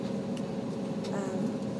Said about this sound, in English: But we're on the plane. I got my belt on and I pulled it tight now that I can do that. So yeah, anyway. So you can hear the general atmosphere of a plane.